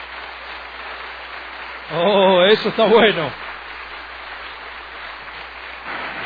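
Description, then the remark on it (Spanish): Steady audience applause at a religious gathering fills the whole clip as a dense, even wash of clapping, with a voice briefly exclaiming loudly over it partway through. “Si ese aplauso era para mí, estuvo lindo, pero si era para el Señor, que se escuche hasta el otro extremo de Canadá.”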